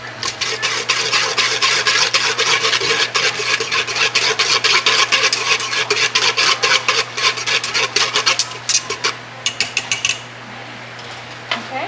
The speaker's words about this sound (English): Like 2 tablespoons of the Knorr's chicken bouillon. Well, just 1.5 because it could really get salty. Okay, so I'm going to whisk it with my whisk.